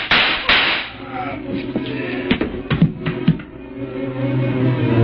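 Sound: gunshots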